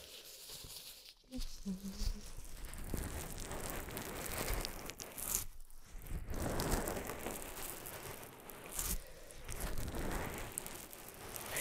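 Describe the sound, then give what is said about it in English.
A wet cloth being wrung out while washing someone's ears, with a steady spatter of water pouring and dripping for several seconds and a couple of brief pauses in the flow. “Wring it out.”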